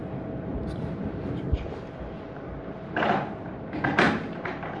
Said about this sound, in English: Let's shut that door properly.